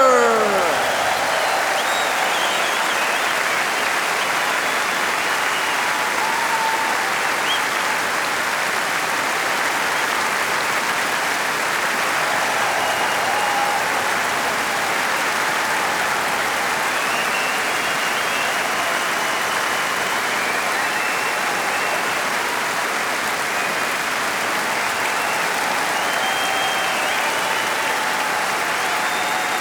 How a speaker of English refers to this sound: Every night, every concert, wherever we play in the world, always, always they play with all their heart and all their enthusiasm. Give them an enormous applause, the Young Trust Orchestra!